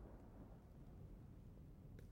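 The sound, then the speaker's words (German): A deep, heavy rumble of thunder rolls on steadily for the whole moment, low and booming with no break, and a faint crackle near the end. No one speaks. “Jetzt donnert es furchtbar laut.”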